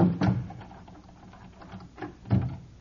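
A door being locked with a key: a sharp clunk, a stretch of soft rattling and fiddling, then a second solid clunk as the bolt catches. No one speaks.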